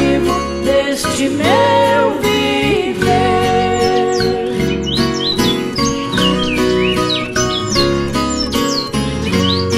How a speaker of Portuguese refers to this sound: Passarinhos quando estão cantando, fico escutando, não posso entender.